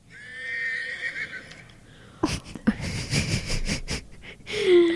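A horse whinnies with a long, quavering high-pitched neigh, followed by a series of loud, breathy snorts and huffs, with no talking.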